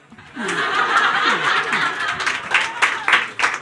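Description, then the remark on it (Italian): A crowd breaks into steady applause, the dense clapping mixed with scattered laughter and chuckles, fairly loud and sustained for a few seconds with a few sharper claps standing out near the end. “Se non la conosci, applausi.”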